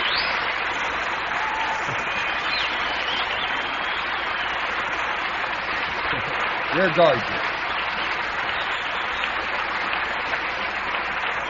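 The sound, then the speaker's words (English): Sustained audience applause fills the whole clip at a steady, dense level, with cheering mixed in, while a man briefly speaks over the clapping partway through. “Well, if you're going to applaud all night, we'll never get the word.”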